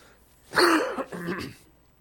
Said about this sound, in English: Oh, sorry. Just when I'm trying to cough.